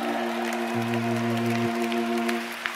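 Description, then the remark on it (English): A church audience gives the Lord a hand clap, clapping steadily in a dense, continuous wash of applause, with a sustained organ-like chord droning beneath and a brief lower note swelling in the middle. “Go ahead, one more time, give the Lord a mighty hand clap and shout.”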